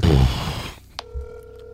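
A burst of loud, muffled noise fades, then a click, and a steady electronic ringback tone of an outgoing phone call starts and holds until the end.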